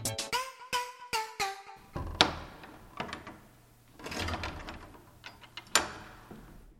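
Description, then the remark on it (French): The heavy door of the stone Saint-Léonard church in Angers, built of schist and slate, is pushed open, its hinges letting out several squealing creaks that slide downward in pitch, followed by dull wooden thuds, clunks and shuffling noises, with no voices. “Poussez la porte et laissez-la vous conter son histoire.”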